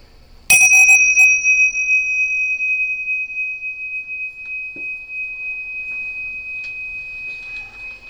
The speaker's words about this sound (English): And when you hear the bell, you can open your eyes. We can finish the meditation.